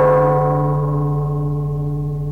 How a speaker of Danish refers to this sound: Og med øjeblik lyder gongongen.